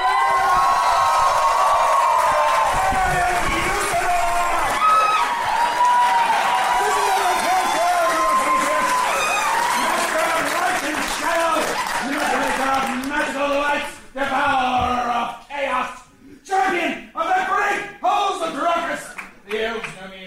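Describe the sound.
A crowd of fans yells and cheers loudly and continuously, many excited voices overlapping, then breaks into scattered individual shouts near the end.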